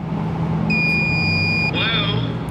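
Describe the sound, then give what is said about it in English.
A door entry buzzer at the Chicago Loop Synagogue in downtown Chicago sounds one steady, high electronic tone for about a second, then gives way to a shorter warbling chime, all over a constant low rumble of background noise. “Yes, second door after I buzz.”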